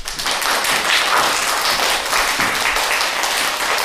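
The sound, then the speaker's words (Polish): Steady, dense applause from the audience of a TV programme choosing a grandma and grandpa of the year, welcoming two teams, many hands clapping at once in a continuous crackling wash that stays loud and even throughout, with no voices. “Brawa, brawa, bardzo słusznie i witamy dwie drużyny.”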